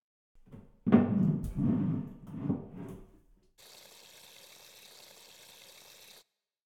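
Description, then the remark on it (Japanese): Warm water is poured over the back of someone seated on a bath chair: a few uneven splashes and gushes, then a brief pause before a steady, even stream of running water for a few seconds. “暑かったら言ってくださいね。お湯加減、大丈夫ですか？”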